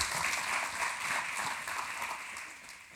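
A crowd applauds steadily, many hands clapping in a dense, even wash of sharp bright pats that holds at a fairly constant level for a few seconds with no voices.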